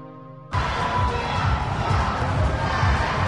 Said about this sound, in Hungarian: Dübörgő bíztatás, labdapattogás, sípszó. A körmendi sportcsarnokban nemzetközi kosaras csapatok mérkőztek.